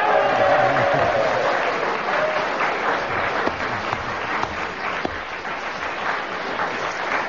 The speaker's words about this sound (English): Well, that big cheer and prolonged applause probably is because our audience here realised that Kenneth had really achieved something with that tremendous flourish at yes, the end.